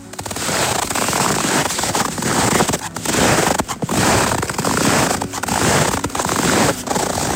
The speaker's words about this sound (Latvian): Tas nozīmē, ja sniedziņš gurkst, čurkst, čirkst, tad ir mīnusiņš.